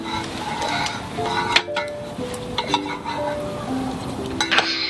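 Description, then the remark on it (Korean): Cups clink together in a toast, a few bright, ringing taps spaced a second or so apart, set against a steady murmur of tableware clatter. “아 근데 우리 오늘 짠을 한 번도 못했네. 짠할래?”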